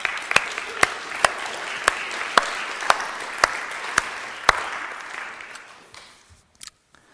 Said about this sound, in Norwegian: Skal jeg gi en klapp for dem?